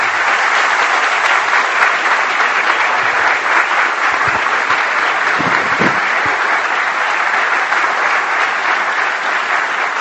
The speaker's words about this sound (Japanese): それではこれよりルフィン・ゾマホン特命全権大使閣下がご退場されますので、皆様にはどうぞご起立の上拍手でお送りいただきますようお願い申し上げます。